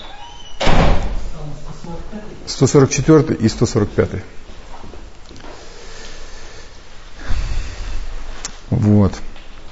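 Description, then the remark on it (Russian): A door shuts with a solid thud, followed by muffled knocks and a second dull bump a few seconds later, while people talk indistinctly. “Миш, будь добр, закрой дверь.”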